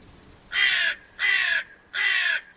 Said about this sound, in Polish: To tak kracze, wszyscy wiedzą. Bo z tymi ptakami to też jest odwieczny problem. Tak, tak, a to ani to, ani to. Wrona siwa. Nie jest to żadna żona gawrona, to jest po prostu gatunek osobny. Wrona siwa.